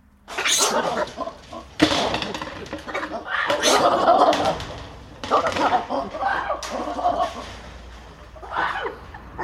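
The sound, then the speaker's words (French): Loud, harsh alarm calls from caged collared mangabey monkeys burst out in rapid, overlapping barks and cackles, with sudden sharp onsets and a frantic chorus lasting several seconds, as they react to a frisbee thrown over the cage to simulate an aerial attack. “Eh ben, vous venez d'envoyer un espèce de frisbee au-dessus de la cage des singes pour simuler une attaque aérienne dont ils n'ont pas l'habitude du tout, et ça réagit violemment, hein.”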